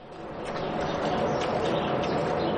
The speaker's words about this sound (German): 50 Kühe stehen hier in diesem riesigen hellen Stall in Emmenbruck. Sie fressen dann grüne Futtermischung, die gerade vor ihnen am Boden liegt, oder trinken Wasser. Es geht gemütlich zu und her.